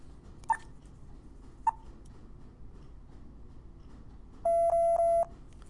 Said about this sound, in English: Three low-pitched beeps. And like I said, that's low is fairly relative, because I wouldn't really call that low, although it's low compared to the other.